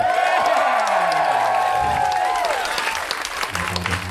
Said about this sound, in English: Show saver two is ask people to cheer for previous Max Fun Con performers in the hopes that they will mingle the memories of the shows and will look back on your show somewhat fondly. Let's hear it for Super Ego.